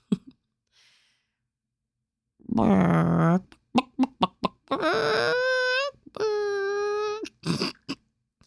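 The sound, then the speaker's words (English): A person imitates a chicken with a run of clucks, squawks and drawn-out warbling crows, loud, with short bursts between the longer calls and no other voices. “Like, I bet when you tuned in for today's episode, you didn't know I was going to tell you one of my useless hidden talents is that I do a really mean chicken impersonation.”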